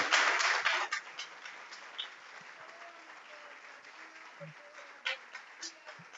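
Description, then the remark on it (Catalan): Audience applause for a whole group bursts out loudly at the start, a dense wash of many hands clapping, then thins to a softer, scattered patter with a few isolated claps toward the end. “Doncs, escoltem, demanem un fort aplaudiment per tot aquest grup.”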